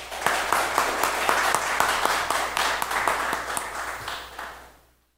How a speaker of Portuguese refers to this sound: Aplausos.